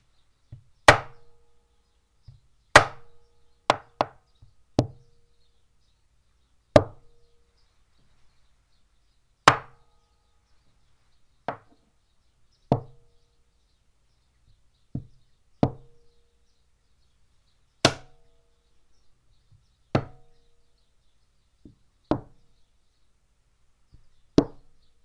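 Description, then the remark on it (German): A screwdriver taps the outer ring of a foam-filled metal roof hatch with sharp, dull knocks, about a dozen single or paired hits spaced irregularly a second or two apart, with quiet pauses between, recorded with a microphone and a vibration sensor. “Ich klopfe wieder mit dem Schraubenzieher auf den äußeren Ring.”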